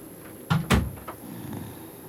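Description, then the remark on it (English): Two firm knocks on a door in quick succession, fairly loud, followed by a fainter tap, with a quiet hum underneath and no voices. “Knock, knock.”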